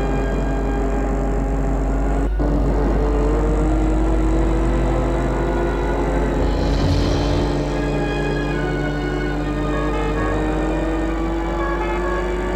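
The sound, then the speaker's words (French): A car drives people to the airport in the morning, its engine humming low and continuous, with tones that slowly rise as it picks up speed. No one speaks. “Le lendemain matin, une voiture les mène à l'aéroport.”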